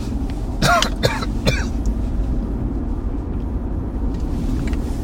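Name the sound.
coughing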